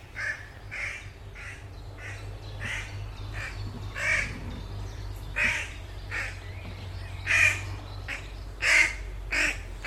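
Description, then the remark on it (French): A crow caws over and over at a steady, insistent pace, harsh calls coming from some distance with a low background rumble beneath them. “Écoutez ce corbeau au loin qui croasse avec insistance.”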